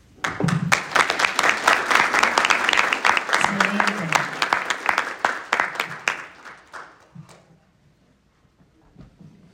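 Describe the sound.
A crowd breaks into dense applause, many hands clapping loudly for about six seconds before it thins into scattered claps and fades, with brief voices murmuring underneath.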